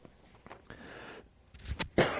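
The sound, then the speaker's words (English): A speaker coughs during a Bible reading: a soft, breathy lead-in followed by a few short, sharp bursts, with the last one the loudest. Nobody is speaking. “I try not to cough in the microphone, but the more I talk, the worse it gets.”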